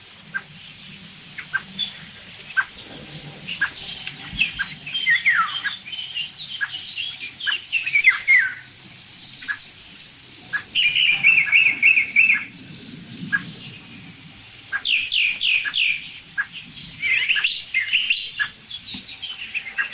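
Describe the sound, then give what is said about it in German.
A blackbird that has just flown in gives soft 'duck' calls amid a busy chorus of chirping, trilling songbirds, with repeated short notes and bright warbling phrases, moderately loud, no voices. “Da kommt gerade eine Amsel angeflogen. Das weiche Duck ist von der Amsel.”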